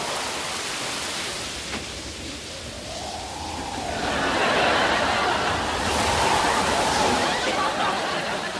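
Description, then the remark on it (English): A steady rushing wind outside builds and swells to a louder gust midway, then holds as a broad, breathy roar with gentle surges, no voices present. “The wind's freshening a bit.”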